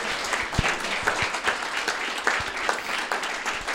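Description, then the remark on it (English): A crowd applauds a smart point about listening, many hands clapping in a dense, even patter for several seconds with no one speaking over it. “Just clap for that, because it was very smart.”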